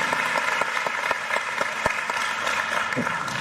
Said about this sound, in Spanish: Así que le damos un fuerte aplauso.